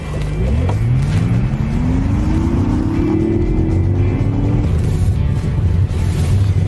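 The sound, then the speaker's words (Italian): An electric car's engineered, synthesized engine sound, made to recall a combustion engine, loud: a smooth hum that climbs steadily in pitch as power increases, then levels off over a constant road-like roar, with no talking. “Insomma, un motore che reagisce con un suono che ricorda un po' il motore a combustione man mano che si aumenta la potenza, proprio per dare la sensazione a chi guida di una macchina che comunque risponde a dei comandi.”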